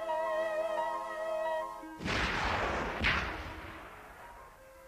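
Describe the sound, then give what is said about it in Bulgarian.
After a sustained tonal musical drone, two loud, booming cannon shots ring out about a second apart, each followed by a long rumbling echo that slowly fades. “Ще известим победата си с 7 топовни изстрела.”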